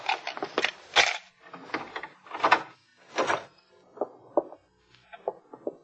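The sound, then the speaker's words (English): A door is unlocked with a pass key and opened: a run of sharp metallic clicks, rattles and scrapes, then lighter knocks and clacks as it swings, with no voices. “You have a pass key? Yeah. All right, open the door.”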